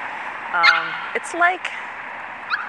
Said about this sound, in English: That is a, well, you can pretty much figure that's a little dog. Bigger than it sounds. Black.